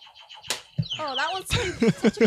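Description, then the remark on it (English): A quiz buzzer sound effect: a sharp click, then a bright electronic tone that wavers and slides in pitch for about half a second, with voices talking right after it. “My sexy sidekick, can we get some buzzers, please?”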